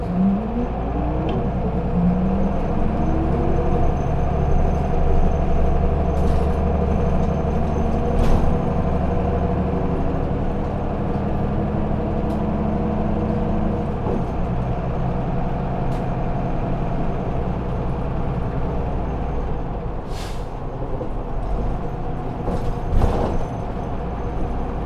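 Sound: bus pulling away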